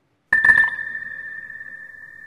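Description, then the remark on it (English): A single sharp electronic timing beep, marking a runner's finish in a sprint comparison of Owens and Bolt, hits with a brief burst, then holds as a steady, mid-high ringing tone that slowly fades over about two seconds. “Rather than the last beep, Owens would have been the second beep. Listen to it again.”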